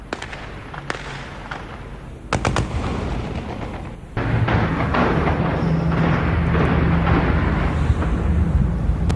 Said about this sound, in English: Health officials say dozens of people were also wounded as gunfire and explosions rocked several districts of Tripoli. There are reports of indiscriminate shelling in civilian populated neighborhoods.